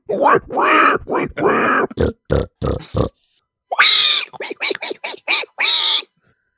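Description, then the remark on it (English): A person imitates an adult pig, letting out a run of low, rough grunts in quick rhythmic bursts, followed by a stretch of higher-pitched, squealier pig-like noises. “You're doing an adult pig. I was doing piglet.”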